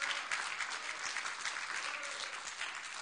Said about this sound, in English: Let's give him a mighty hand clap.